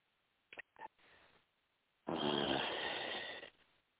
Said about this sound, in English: Deep breathe in and out. And you can breathe down to your belly. If you were lying down and put a book on your belly, maybe the book would go up with your hand on your belly. Your hand moves before your chest does. So we have our deep breathing.